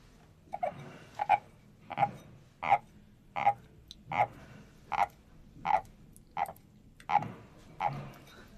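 A wooden frog souvenir rasped in a steady rhythm, giving about a dozen evenly spaced, croaking scrapes with no talking.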